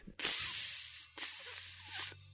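food or drink, bacon sizzling

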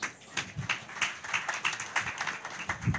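crowd, audience clapping hands

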